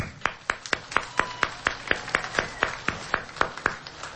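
An audience of pilgrims claps in steady unison in welcome at a gathering, sharp rhythmic beats about four per second carrying on evenly throughout, with no voices over them.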